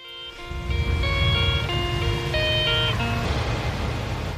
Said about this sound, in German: Der Einlaufsong von den Bern Grizzlies, American Football Team hier von Bern.